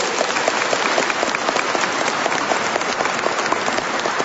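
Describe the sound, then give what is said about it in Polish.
A church audience applauds steadily to welcome visiting parish groups, a dense wash of many hands clapping at an even loudness with no pauses, and no voices standing out above it. “Brawa!”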